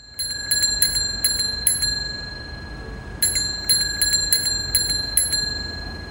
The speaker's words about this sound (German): Also eine ganz stinknormale Fahrradklingel, ein bisschen Verkehrsrauschen im Hintergrund. Und das ist eines der Beispiele, das die NASA auf ihrer Webseite Sounds from Mars hochgeladen hat.